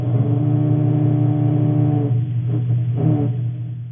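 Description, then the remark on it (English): A low, droning growl made by grey snapper larvae, a steady buzzing hum rich in overtones that breaks into a few uneven pulses before fading slightly toward the end. “And this is a growl.”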